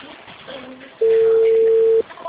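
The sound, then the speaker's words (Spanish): A telephone busy tone sounds once after a phone call is cut off, a loud, steady electronic beep lasting about a second, set against a faint, muffled background murmur before and after. “Me cortan.”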